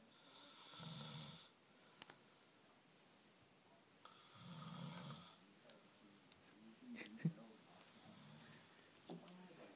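A sleeping person snores twice, slow and spaced about three seconds apart, each a raspy, rumbling inhale, followed by quieter breathing and a few faint background clicks.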